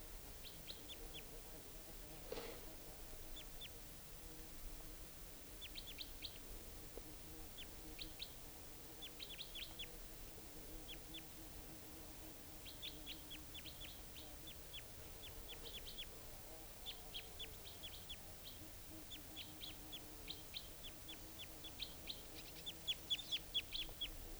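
Wild birds, a type 2 and a type 4 bird together in the top of a large tree, call repeatedly in short, high chirps and clusters of tweets, scattered irregularly over a low steady background hum, with a few louder calls toward the end.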